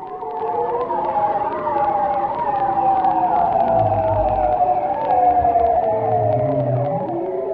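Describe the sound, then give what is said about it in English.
Underwater whistles of a bearded seal near Barrow, Alaska, long warbling tones that slowly spiral and slide in pitch, overlapping throughout, with brief low moaning notes rising beneath them near the end. “This is the spiraling whistle of the bearded seal near Barrow, Alaska.”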